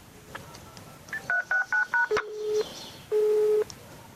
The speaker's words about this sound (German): Darauf stand so eine komische Telefonnummer. Ich nahm mein Handy in die Hand und wählte.